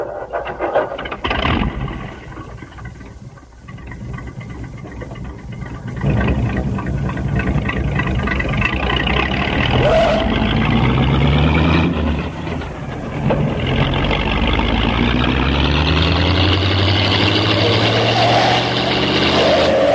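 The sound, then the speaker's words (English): A loud, rough car engine roars without a muffler, its pitch rising and falling in repeated revs with a harsh, unmuffled rumble that continues throughout, briefly dipping before surging again. “Someone needs a new muffler, I think.”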